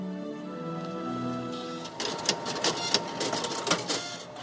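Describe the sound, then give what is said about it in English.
A fax machine printing: a steady mechanical whine with layered hum tones, then a burst of scratchy, clattering feed noise with irregular clicks and rattles, moderately loud, with no voices. “And yet, the fax is not dead. It is super alive. It is sending billions of faxes.”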